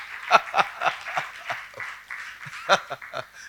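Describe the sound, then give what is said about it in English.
A church audience claps for a couple, a steady patter of many hands with sharper individual claps popping out irregularly over about three seconds, fairly loud throughout. “Clap for them.”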